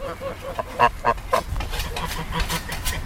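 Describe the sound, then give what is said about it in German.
Several geese in the Carpathian mountains honk at an arriving visitor in quick succession, a cluster of three loud, nasal calls near the start, followed by more scattered honking over a steady outdoor background. “Landwirte trotzen den steilen Hängen mit der Sense Gras ab, Gänse melden meine Ankunft.”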